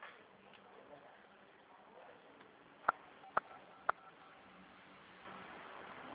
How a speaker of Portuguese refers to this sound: é que tá apertando alguns números aí no seu celular.